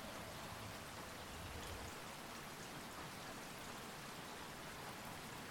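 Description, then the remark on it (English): Steady rain falls throughout, a dense, continuous patter of droplets with a soft hiss, evenly spread, with no voices or other sounds. “As you reach a river, all around you, all you see is just droplets. Do you hear them joining you?”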